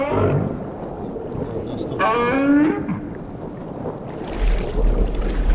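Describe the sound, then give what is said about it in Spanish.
A single low, rising tonal moan with rich harmonics from a right whale mother calling her calf with her mouth closed, 2 metres deep beside a Zodiac inflatable boat, sounds briefly over steady underwater rumble and water noise, with splashy bursts near the end. “Es una, con la boca cerrada, una neumatización, podríamos decir, de una madre llamando a su cría.”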